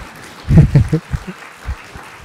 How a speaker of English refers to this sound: It's now been secured. The first Bhikkhuni monastery in UK. You're just going to sit there like that, and you're going to clap or say, yay!